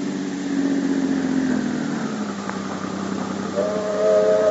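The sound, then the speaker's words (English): A steam train's whistle sounds in long, steady tones over a constant loud hiss of escaping steam, with a deep mechanical rumble underneath and a second, higher whistle blast near the end. “Well, there's your train, Sylvia.”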